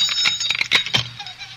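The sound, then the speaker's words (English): A gate bell rings violently and repeatedly, a bright metallic jangling with rapid irregular strikes that clatter loud for a moment before fading out. “In the name of all that's holy, stop jangling that bell.”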